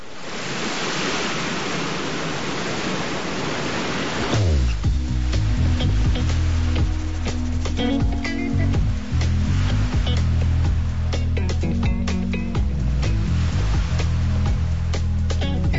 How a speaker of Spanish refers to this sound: estas olas del Mediterráneo que nos acaricia aquí en Málaga